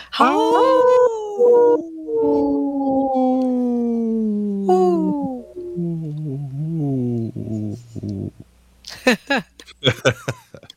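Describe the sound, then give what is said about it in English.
A wolf howls in long, sustained tones that slide slowly downward in pitch, then a lower, wavering howl follows before some brief, scratchy bursts of noise close it out. “I just showed my wolf.”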